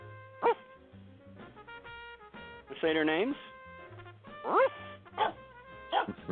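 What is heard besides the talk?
dog barking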